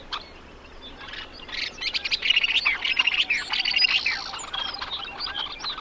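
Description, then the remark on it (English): A busy chorus of many birds, such as ducks and shorebirds like sandpipers and plovers, calling at once on the Arctic Coastal Plain in early June, where they arrive to breed. Overlapping high chirps and trilling notes swell in the middle and carry on steadily over a soft outdoor background, with no talking. “In early June, millions of birds arrive there from all over the world to breed.”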